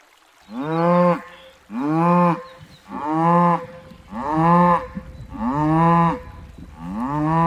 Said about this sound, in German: Im Frühling 2024 ziehen vier Dorfbewohner mit Spanngurten eine Kuh aus dem Bach, die dort rücklings feststeckt. Das Tier ist bereits aufgegast und schreit.